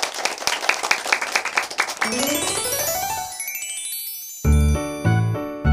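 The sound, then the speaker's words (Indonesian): A short burst of lively applause for the children in a children's letter-learning audio lesson, with many quick, crisp claps, followed by a rising tinkling glissando and three bright, loud chime hits. “Tepuk tangan untuk anak hebat.”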